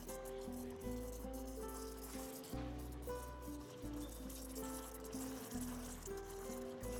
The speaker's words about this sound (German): Das Geräusch der Kaffeemaschine.